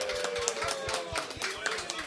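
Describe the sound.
A crowd at the Beat Brothers Store claps steadily for a regular guest who has just turned 18, many hands blending into a dense, even patter with a quick regular pulse, while voices murmur faintly underneath.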